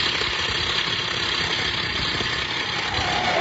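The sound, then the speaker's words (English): A truck that has stopped because someone signals it with a flashlight idles with a steady, unbroken rumble and a hissy mid-range drone, holding an even loudness throughout with no voices or other sounds. “No truck stop for nothing.”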